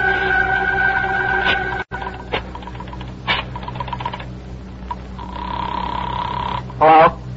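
A telephone ringing tone sounds over the line as a caller tries to reach the operator, with a long steady ring near the end, amid clicks, taps and a low humming background.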